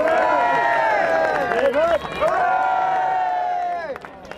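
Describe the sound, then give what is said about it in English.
A crowd, led on by Frankie Fraser, cheers loudly for Reggie as he leaves to go back to prison, many overlapping voices shouting and whooping in a dense, sustained roar that briefly dips midway, then fades out near the end. “Led on by Frankie Fraser, crowds cheered for Reggie as he left to go back to prison.”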